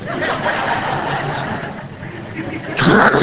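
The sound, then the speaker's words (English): A man imitates the growl of an angry Doberman with his voice, a rough, rumbling snarl held for a few seconds before ending in a louder, harsher burst. “It's like taking a dog by the ears. Oh, yeah. Now picture that with me. Here, Mr. Doberman.”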